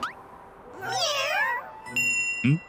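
A cat gives one long, wavering meow lasting about a second, clear, followed by a couple of brief bright chime-like tones.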